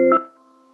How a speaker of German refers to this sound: Ja, jetzt ich glaube, ich auch irgendwas gehört. Da ich sehe, unten ruft einer auf einem der Telefone unten. Ah, okay, dann wissen wir, was es ist.